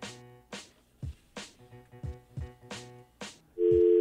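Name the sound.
telephone busy tone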